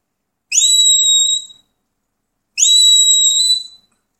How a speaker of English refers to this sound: Okay, now to the steady or the there whistle. This is half of the lie down whistle. It's the lie down whistle with the tail missing.